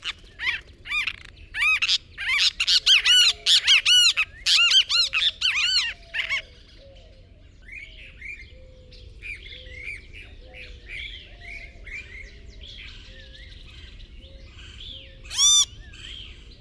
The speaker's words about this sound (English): In the lower Rio Grande Valley of Texas, plain chachalacas sound their wake-up call. Followed by the great kiskadee.